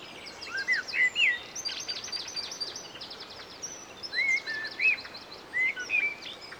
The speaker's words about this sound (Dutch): De ramen naar de tuin stonden ver open. Gezang van vogels lokte ons naar buiten.